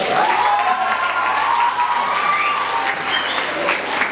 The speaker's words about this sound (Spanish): Un fuerte aplauso